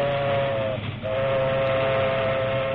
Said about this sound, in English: It was mid-morning when a locomotive and a caboose, the combination known to railroad men as a caboose bounce, moved west along the tracks.